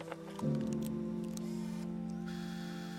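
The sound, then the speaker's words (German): A camcorder spins up with a click as it fast-forwards an old DV tape by about half an hour, then settles into a steady, high mechanical whir that holds at an even level, moderately quiet, with no voices. “Aber wenn ich auf der alten DV-Kassette eine halbe Stunde weiterspule, finde ich vom selben Tag eine ganz andere Aufnahme.”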